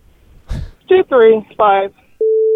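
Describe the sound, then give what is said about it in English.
A short clatter and a few voiced, tonal sounds, then a steady electronic telephone tone cuts in clearly near the end, like a busy signal after dialing back the phone number that had called. “I'm going to dial the phone number that called us.”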